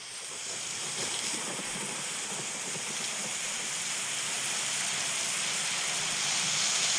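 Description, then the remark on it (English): A steady, dense rainstorm hiss played from the Rain Rain app on a phone pours on without pause, a full wash of falling rain with a low rumbling undertone that swells slightly louder toward the end. No voices are heard. “That's a rainstorm for you.”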